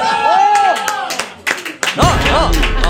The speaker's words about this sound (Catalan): Què aplaudiu, què aplaudiu, què aplaudiu?